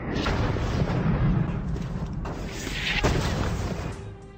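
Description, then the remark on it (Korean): Heavy naval cannon fire from British ships bombarding Fort McHenry in a sustained bombardment, a dense rolling rumble broken by a few sharp booms, loud and continuous throughout with no voices. “영국 함선들은 포트 맥헨리에 함포 사격을 가했습니다.”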